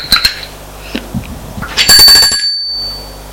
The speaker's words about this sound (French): Une sonnette a retenti.